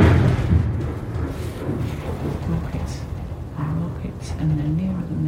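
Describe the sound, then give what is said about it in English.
A heavy explosion of an incoming shell booms very close in Gaza, with little whistle before it, and rolls into a sustained low rumble, with muffled voices faintly audible beneath the noise. “That feels very close. You don't get to hear much whistle before it comes.”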